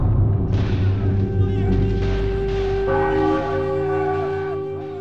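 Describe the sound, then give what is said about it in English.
A deep church bell tolls in the ruins of Le Cap, its rich metallic hum lingering, then strikes again partway through as the ringing layers over a low, steady rumble. “A church bell rang as Marie limped through the empty, charred ruins of Le Cap.”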